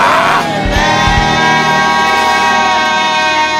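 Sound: audience shouting amen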